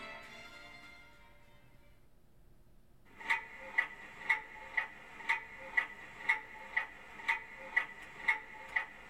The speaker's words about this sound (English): Isn't the second hand on our clock a bit too loud? I've never noticed before, but it's really quite noisy.